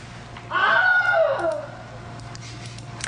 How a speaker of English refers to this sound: The sound editors who use the Wilhelm scream are sort of putting it in as a tribute to sort of the sound effects lore that has come before.